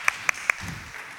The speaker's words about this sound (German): Danke. Service. Applaus für den Service.